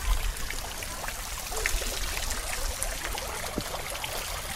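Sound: trickling flowing water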